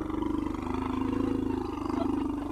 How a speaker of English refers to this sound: That was a baby elephant named Boromoko leaving its grazing area, returning to its cage. I'm at the David Sheldrick Elephant and Rhino Orphanage. It's just outside the capital.